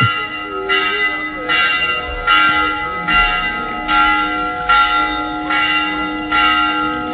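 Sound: church bells ringing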